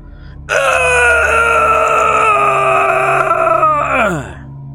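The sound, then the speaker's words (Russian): A single loud, drawn-out wailing cry holds a steady, strained pitch for about four seconds, then slides downward and fades. It stands alone, with no talking around it. “Этой ночью никто не срал, но уже на следующую ночь, поскольку еда не была оставлена, смотритель маяка услышал крик.”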